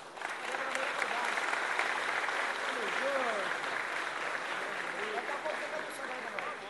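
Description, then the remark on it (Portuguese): Steady applause from an audience for a composer fills the whole stretch, a dense wash of clapping at an even level, with some faint voices mixed in underneath. “Uma salva de palmas”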